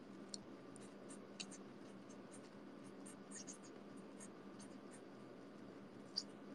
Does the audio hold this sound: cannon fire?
no